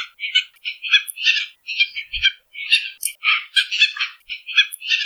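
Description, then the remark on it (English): A tropicbird gives a rapid, continuous series of loud, sharp, harsh barking calls, insistent, with no one speaking. “Their calls have been described as a loud, sharp bark, sometimes with a piercing scream that's mostly heard around their breeding grounds.”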